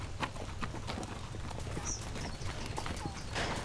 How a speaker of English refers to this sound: These horses can't make much better time on these steep trails, so it'll be close to sundown by the time we get around to the other side of this mountain.